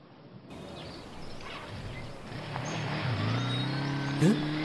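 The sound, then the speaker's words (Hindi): A motorbike engine starts up over steady outdoor background noise, revving with a rising buzzy whine as the rider pulls off, loudest near the end. “वो मुरादी ही था ना जो बाइक लेके चला गया?”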